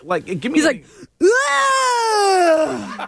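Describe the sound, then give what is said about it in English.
A moment of talking gives way to a voice imitating a man who screams and grunts while working out at the gym: one loud, sustained, strained cry that holds for nearly two seconds, its pitch sinking slowly before it cuts off. “When I tell you, he's like screaming, grunting.”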